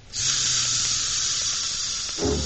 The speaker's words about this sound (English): A clockwork train. I'll make that go.